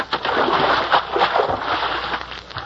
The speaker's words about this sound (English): I rigged up a bucket of water over the door, and when the principal opens the door, it'll tip the bucket.